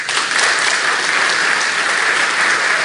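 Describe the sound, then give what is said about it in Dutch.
Steady audience applause, a dense wash of many hands clapping at an even, loud level for a few seconds with no voices standing out. “Zullen we eens even een applaus geven?”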